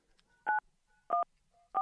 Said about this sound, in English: I'm going to have to hang up on you. Maybe you'll call back. Maybe that's what that beeping is. Maybe you're dialing back. I don't know how that worked.